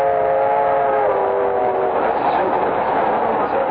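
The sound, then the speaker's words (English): A passenger train with a dining car rolls steadily along the rails with a loud, continuous rumble and hiss. A sustained horn-like tone sounds at first, then fades into the rushing rolling noise. “Heck, some people don't know there are still trains running.”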